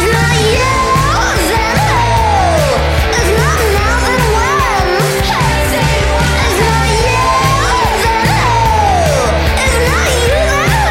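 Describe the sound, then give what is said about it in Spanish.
Loud, dense feminist punk rock with social-protest themes, a woman screaming and shouting the vocals over a constant wall of distorted guitars and pounding drums, at full volume throughout. “Todo esto rodeado de denuncia social, mucho feminismo y mucha actitud punk”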